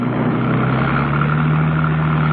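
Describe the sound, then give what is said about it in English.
Conrad's car engine drones loudly and steadily as he drives after Mrs. Peel from a car park, heading to cut her off: a continuous hum with a low throbbing pitch that holds even throughout, with no voices. “Conrad, in his car, made after her, heading to cut her off.”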